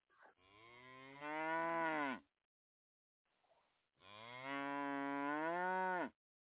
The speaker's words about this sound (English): Get out of my yard, man. Y'all out there making my cows upset.